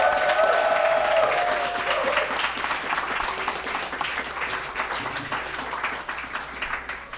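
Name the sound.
audience round of applause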